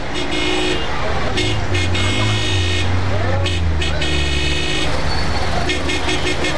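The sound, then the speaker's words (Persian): Busy road traffic jam with engines rumbling and repeated car horns honking in short bursts, some overlapping, heard from a taxi. “چیگه باز ترافیک سب خیریت خواست؟”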